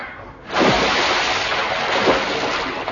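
Loud churning and splashing water that starts suddenly and continues steadily, with a couple of heavier splashes, as someone thrashes about struggling to swim.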